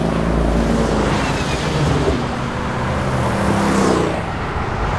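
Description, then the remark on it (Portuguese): Dense, steady engine rumble from a whole fleet of driverless cars moving all around, a continuous loud wash of traffic noise with a brief swell of one vehicle passing, and no voices. “Tem muito carro em volta da gente.”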